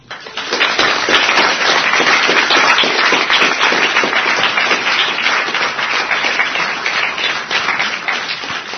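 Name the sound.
loud round of applause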